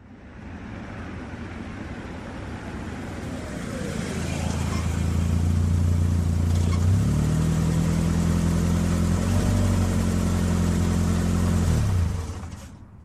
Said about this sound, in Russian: Внедорожник Volvo затормозил у ворот автостоянки. Ворота медленно открылись. Машина въехала внутрь и остановилась на своем привычном месте, напротив будки охраны, между новеньким сверкающим лаком Мерседесом и Порше Каеном.